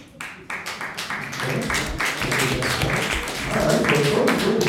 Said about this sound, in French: qui pense qu'au centre de chaque flocon de neige, il y a un grain de poussière ? À l'applaudimètre. Quelques personnes.